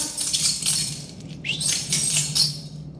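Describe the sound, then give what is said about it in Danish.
Keys jingle and rattle in a continuous metallic shimmer for about three seconds, with bright clinking pulses rising and falling as they are shaken repeatedly toward animals that usually react to their keepers' keys, alone with no voices. “Jeg kan lige prøve at ryste mine nøgler en gang til, for de plejer at reagere på dyrepassernes nøgler.”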